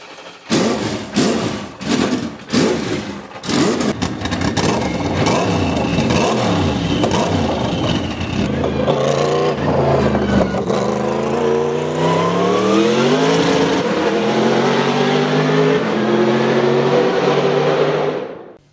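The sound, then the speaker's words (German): A Sauber C11 race car's 5-litre V8 biturbo engine, a Mercedes production engine tuned for high performance, cranks and fires with several sharp blips, then settles into a loud, rough, throbbing idle that rises in pitch as it revs steadily, with no talking. “Tja, und dann würde ich sagen, werfen wir das Ding mal an und hören, wie er so klingt, der C11.”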